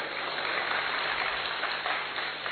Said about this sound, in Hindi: ताली बजानी, ढंग से बजाओ भाई,